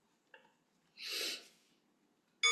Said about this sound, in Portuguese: Fazendo uma respiração profunda e desacelerando a nossa mente. Fazendo uma respiração profunda, desacelerando a nossa mente. Respirando profundamente.